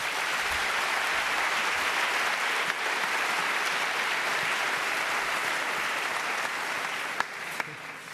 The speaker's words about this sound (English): Yeah, so please give him a big round of applause for his talk.